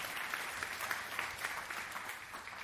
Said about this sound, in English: We are grateful. We tried. If that guy can't fix it, I know it can't be fixed this morning. Yeah, give him a hand clap.